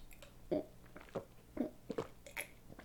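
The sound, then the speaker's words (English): Wet gulping as a cocktail is swallowed down in about five quick, uneven gulps over a few seconds, with no talking. “Come on, gulp yours down too.”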